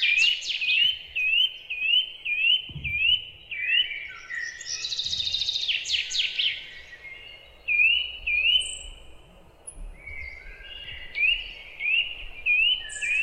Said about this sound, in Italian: Bene, ora lasciamo i versi degli uccellini, facciamo uno stacchetto musicale